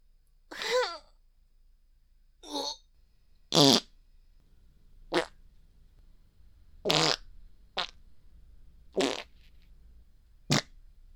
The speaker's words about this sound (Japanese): おならで顔ベタベタになるまで嗅がせちゃった。